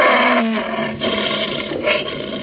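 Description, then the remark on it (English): A captive lion at the palace of Sayyid Khalif in Zanzibar roars loudly: one long, rough, throaty bellow that swells and surges over a couple of seconds, with no voices present. “That white building, patched and rotted, was the palace where Sayyid Khalif lived with his fat wives and his captive lion.”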